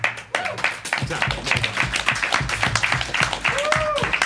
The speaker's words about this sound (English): Like, applause for our audience.